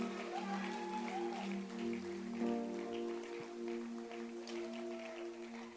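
audience hand clapping

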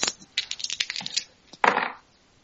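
dice being rolled

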